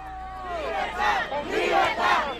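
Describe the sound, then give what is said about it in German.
A large crowd of Venezuelans living abroad cheers and chants in the streets, singing of freedom for their country, voices rising and swelling in rhythmic surges, loud and dense with many people shouting in unison. “Venezolaner, die im Ausland leben, brechen auf den Straßen in Jubel aus, singen von Freiheit für ihr Land.”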